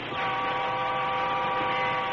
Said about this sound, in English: In the cab of the train engine, the engineer reached again for the whistle cord.